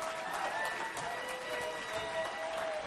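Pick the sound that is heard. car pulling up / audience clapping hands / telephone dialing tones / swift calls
audience clapping hands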